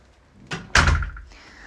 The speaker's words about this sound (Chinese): 敲了好几下你才开门，好热啊！